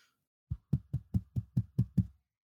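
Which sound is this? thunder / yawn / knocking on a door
knocking on a door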